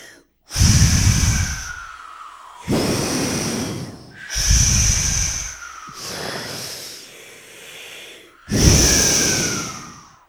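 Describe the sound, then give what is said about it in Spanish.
A voice imitates the wolf blowing hard to knock down the little pigs' house of sticks: five forceful, breathy gusts of air in a row, each a loud rushing whoosh with a rough low rumble, separated by short pauses and no talking. “El lobo enojado gritó: ¡Pues ábranme la puerta o soplaré y tu casa tiraré!”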